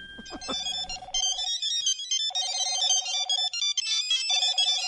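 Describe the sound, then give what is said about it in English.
A cell phone ringtone plays a bright, repeating electronic melody in bursts, with a steady tone pulsing beneath and short pauses between phrases, clear with no voices. “Oh, cell phone ringing, obviously, right?”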